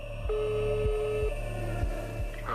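A phone line ringing tone, a steady electronic beep lasting about a second, over a low buzzing line hum with faint clicks, as a phone call rings before it is answered. No one speaks.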